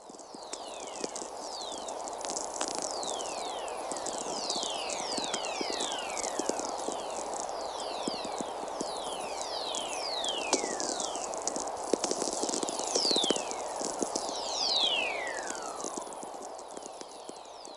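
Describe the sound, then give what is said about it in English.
Radio whistlers from the electrical energy of thunderstorms, picked up by low-frequency radio receivers at the South Pole: dozens of overlapping, sweeping tones that glide quickly from high to low pitch, layered over a steady hiss and dense popping crackle of static, continuing throughout with no voices. “And these are what these whistlers sound like when they're picked up by low-frequency radio receivers at the South Pole.”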